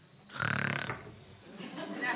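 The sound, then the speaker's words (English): A person makes a single loud, croaky burping sound with their voice, lasting about half a second, followed by softer breathy vocal noise. “They're burping.”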